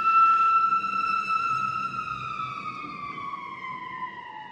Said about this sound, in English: Wow, there's a lot of action going on out there tonight with the sirens, Saturday night, I guess.